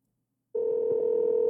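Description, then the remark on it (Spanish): After a moment of silence, a steady electronic phone ringing tone begins as a long-distance call is placed from a US phone, clear and unbroken, humming at an even pitch through to the end with no voices. “A ver si entra. Si no, le hablamos por WhatsApp.”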